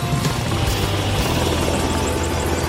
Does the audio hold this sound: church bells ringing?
no